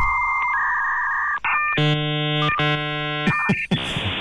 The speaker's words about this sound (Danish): Og det var jo bare lyden af fremtiden engang, det der. Det var det. Det er, når du ringer til et telefonnummer, hvor der er en fax tilsluttet, så siger den sådan.